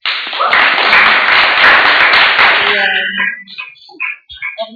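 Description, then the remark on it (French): Loud audience applause for the people who helped organise a week-long camp, a dense crackle of many hands clapping together for about three seconds, then fading as a voice begins speaking. “Et vous avez fait vraiment du bon boulot, et je trouve que vous vous applaudir.”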